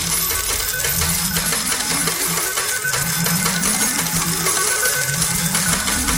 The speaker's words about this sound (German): Na toll. Und was mache ich jetzt mit der ganzen Kohle? Das sind ja lauter 1-Euro-Münzen.